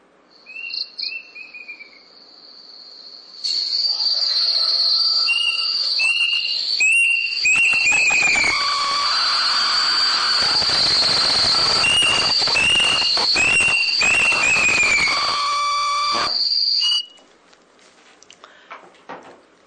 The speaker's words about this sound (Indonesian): kalau dengar suara burung kedasi ini